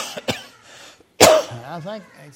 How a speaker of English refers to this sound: This is part of the scars on my lungs. They say I'm going to cough forever like this.